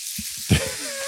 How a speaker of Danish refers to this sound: Prøv lige at høre, hvor det syder og går over.